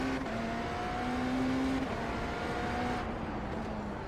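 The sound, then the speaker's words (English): A race car engine drones loudly and steadily, its pitch dipping and rising slightly as the car works through a corner of a track, with road and wind roar underneath and no voices. “I'm surprised how well I'm driving this car.”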